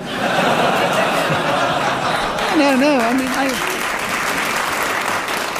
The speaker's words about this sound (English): He deserves a round of applause. He did extremely well.